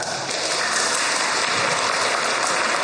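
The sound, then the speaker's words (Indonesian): An audience claps steadily, those who feel no interest in the major they chose at university, a dense, continuous wash of many hands at fairly loud level with no voices standing out, sustained for the whole few seconds. “Yang merasa gak minat sama apa yang jurusan yang mereka ambil di kuliah, tepuk tangan.”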